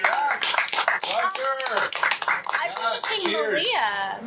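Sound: applause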